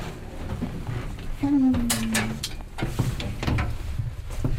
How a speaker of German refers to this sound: C'est l'ascenseur, heureusement qu'ils l'ont mis.